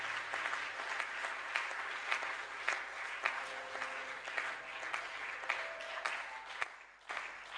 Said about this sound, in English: Let's clap for God. Oh, let's clap better for God.